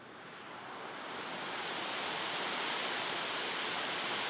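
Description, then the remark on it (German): Steady, dense rush of splashing well water, piped straight from the well into one of four aeration chambers where it takes up oxygen, rising slightly in loudness at the start then holding constant, continuous with no voices. “Genau, das Wasser kommt direkt aus dem Brunnen in einer unserer 4 Kammern.”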